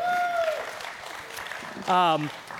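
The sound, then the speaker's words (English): A crowd at a church service applauds with a steady patter of clapping after an announcement that Children's Church will reopen, joined early by a sharp whistle and later by a loud whooping cheer. “Yeah, you guys can clap.”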